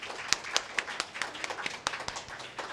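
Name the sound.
audience applause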